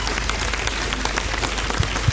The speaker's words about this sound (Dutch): Een groot applaus voor onze stembureauleden.